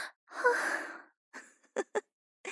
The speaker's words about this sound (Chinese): 没有嘛？那为什么阿姨你的喘息声越来越重了呢？